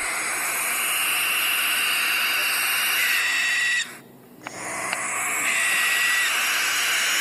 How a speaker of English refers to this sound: He formed theories of how natural sounds work, how animals formed niche ways of making sounds so as not to compete with other frequencies from other animals. That's why a barn owl might sound like this.